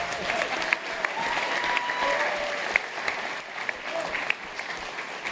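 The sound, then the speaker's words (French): Steady applause from a group, a dense crackle of many hands clapping continuously for several seconds, with faint voices and whistles mixed in underneath. “Et ça s'applaudit.”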